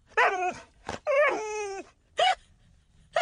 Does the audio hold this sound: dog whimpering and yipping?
yes